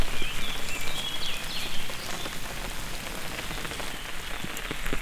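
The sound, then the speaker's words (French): Steady, dense rain that has grown heavier pours down and patters across a hard surface, a constant hiss with scattered drop hits, with no one speaking throughout. “La pluie a donc forci.”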